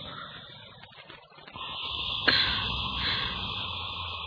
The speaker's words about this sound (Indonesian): Aku coba mengatur nafasku dan kali ini benar-benar ganjil. Aku mendengar nafas lain selain nafasku.